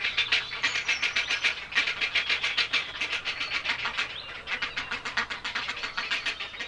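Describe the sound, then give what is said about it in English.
Grey heron chicks call insistently from the nest in spring, a rapid, unbroken stream of harsh clattering, ticking notes that sounds fairly loud throughout, with no voices present. “in spring, they're kept busy feeding their noisy brood.”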